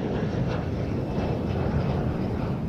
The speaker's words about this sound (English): A plane comes in to land in the sunset.